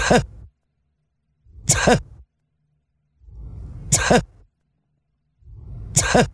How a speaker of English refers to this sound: It's an iguana sneezing.